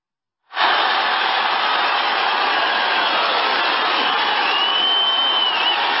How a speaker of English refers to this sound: And I want you to hear the crowd there and look at this massive crowd.